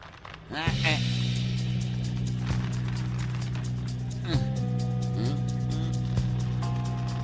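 A battery-powered light-up toy car plays: a steady electronic buzzing hum runs throughout, broken by a couple of sweeping siren-like chirps and a few brief higher electronic tones.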